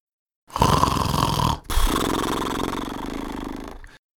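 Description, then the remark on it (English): A voice imitates loud snoring: two long, rasping snore sounds, the first a harsh inhale and the second a rumbling, drawn-out exhale, forceful with no speech. “It came out like snores, like the fierce snores of my father.”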